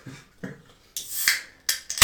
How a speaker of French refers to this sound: Je prends une canette de coca, mais c'est juste pour qu'il y ait des bruits de fond à l'enregistrement.